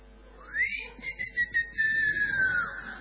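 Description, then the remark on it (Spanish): A single drawn-out whistle, a girlfriend calling from a doorway to her boyfriend who arrives by bicycle, sweeping quickly upward and then gliding slowly down for a couple of seconds, clear against a faint background hum. “Y la llama la novia desde la puerta, medio que le chifla.”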